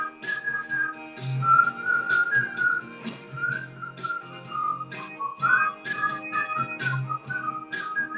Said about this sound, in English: Three-part whistle harmony!